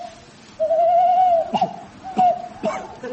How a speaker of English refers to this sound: What was that? An owl. With a cough? It's the pollution. They've all got bronchitis.